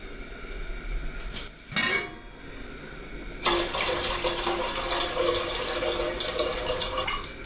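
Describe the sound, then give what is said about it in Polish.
Running tap water pours into a pot, about 3 litres to be boiled for beetroot borscht, starting with a brief splash and then settling into a steady, continuous rush after a few seconds. “Do około 1 kg buraków potrzebujemy mniej więcej 3 litry wody.”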